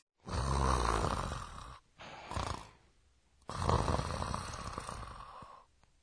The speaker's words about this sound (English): Now, that's got to be the sound of snoring. Yes, and the word for this sound is... Goo goo. Goo goo. Expresses a person is sound asleep.